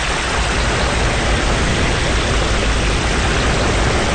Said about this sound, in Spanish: Pero cae una fuerte lluvia y se refugian debajo de una banca.